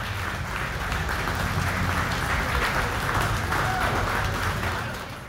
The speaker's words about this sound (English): Let's give all our contestants a big round of applause, ladies and gentlemen.